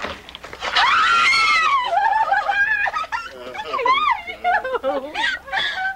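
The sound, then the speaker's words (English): In a scene from the show Iced, several people shriek and yell excitedly over one another as two friends arrive, high-pitched and loud, voices rising and overlapping in a joyful, chaotic greeting that lasts the whole stretch. “So I think there's going to be some yelling and screaming and excitement in the gang's all here in this minute of Iced.”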